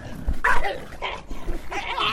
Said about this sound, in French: ces animaux sont nombreux et se mettent souvent en groupe de 10 ou de 15. Pendant la nuit, il faut se munir d'un bâton pour se promener, car deux fois ces chiens agressent les passants, mais aussi ils se battent constamment entre eux.